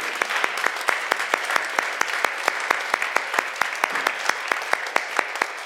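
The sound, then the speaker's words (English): An audience gives Jesus a hand clap, clapping their hands together in a steady, fast rhythm, sharp claps landing over a dense wash of broader applause for several seconds, with no one speaking. “Give Jesus a hand clap right now.”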